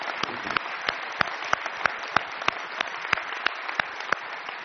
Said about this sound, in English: Why don't we not only just, we're going to applaud and say thank you to them, but why don't we say thank you to our God for even giving us the ability to sing to Him, and we can meet in a place of freedom and worship.